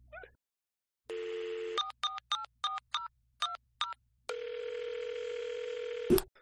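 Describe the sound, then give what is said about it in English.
A steady telephone dial tone hums, then a quick series of keypad beeps is punched in, followed by another sustained tone that ends with a short click. No one speaks. “I need to pantomime that I'm actually on the phone.”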